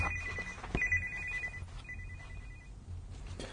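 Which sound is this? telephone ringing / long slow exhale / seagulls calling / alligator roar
telephone ringing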